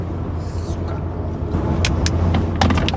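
car slowing down

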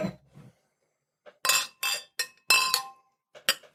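glasses clinking

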